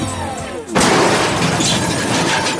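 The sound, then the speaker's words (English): A brief tonal whine gives way to a sudden, loud crash with a sustained clattering, shattering rumble as the entire engine falls out of a Chevy truck and smashes down. “That's the sound of the entire engine falling out.”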